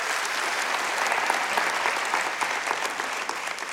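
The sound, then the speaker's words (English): Steady applause from an audience, a dense wash of many hands clapping at once, holding an even, fairly loud level throughout with no voices standing out. “Yeah, you can clap for that for sure.”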